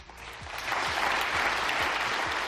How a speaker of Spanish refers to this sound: Ovación cerrada para Marco Rubio, el gran protagonista de este fin de semana.